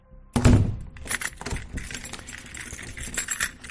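A solid clunk at the outer door of a house for juvenile offenders, then a ring of keys jangles and rattles in the lock as the door is locked at 10:30 at night, with bright metallic clinks that continue unevenly for a few seconds, with no voices.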